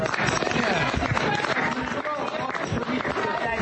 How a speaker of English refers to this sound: Yeah. Look at that. The whole room erupts in applause.